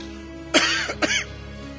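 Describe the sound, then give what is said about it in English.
Two harsh coughs in quick succession with a rough throat-clearing quality from a person who is feeling unwell with an ongoing cough, loud, each a broad noisy burst about half a second apart, followed by quiet. “This cough has been going on.”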